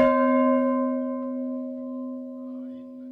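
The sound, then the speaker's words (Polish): A single heavy strike of an iron church bell in the bell tower in Tuczno, with a sharp onset, then a long sustained metallic hum that rings steadily and slowly fades over a few seconds, heard alone. “Widać, że to jest, ma prawdziwy dźwięk dzwonu, natomiast ten następny, który teraz uruchomimy, jest żelazny”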